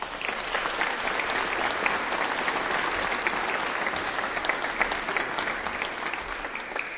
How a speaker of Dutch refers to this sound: Ja, we kunnen wel blijven klappen